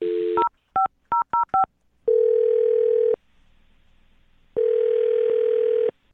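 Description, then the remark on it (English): A quick run of touch-tone keypad beeps as a phone number is dialed, about five short electronic tones, followed by two long, steady ringing tones with a pause between them. No one speaks. “I'm about to dial her phone number.”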